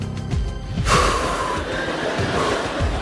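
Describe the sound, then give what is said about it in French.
A slow, steady abdominal-breathing exhale breathes out as a long airy whoosh, lasting about two seconds after a brief quieter moment at the start. “Tu gonfles tes poumons d'air, tu passes l'air dans le ventre et tu expires tranquillement.”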